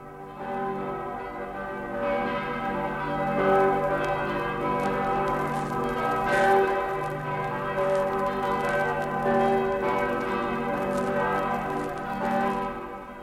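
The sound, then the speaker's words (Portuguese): Church bells peal continuously in Glarus at 9:30 in the morning on the first Sunday of May, as the authorities parade from the Government Palace to the public square for the Landsgemeinde assembly; several bells overlap in a rich, ringing wash with strikes piling up and lingering, loud and steady, with no voices. “Todos os anos, às 9:30 da manhã do primeiro domingo de maio, ao repicar dos sinos, as autoridades de Glaris desfilam do Palácio do Governo à Praça Pública, onde se realiza a Landsgemeinde, a Assembleia reunindo a população do cantão.”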